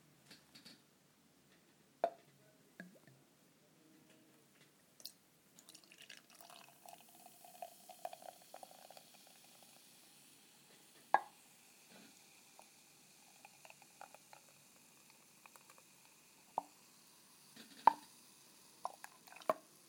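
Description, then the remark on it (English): Beer is poured from a bottle into a glass, partly spilling down the pourer's finger and building a large head: a gurgling, splashing stream lasting a few seconds with a faint fizz, surrounded by sharp clinks and scattered drips. No one speaks. “Okay, I've done an appalling job of pouring this. I mainly poured it down my finger.”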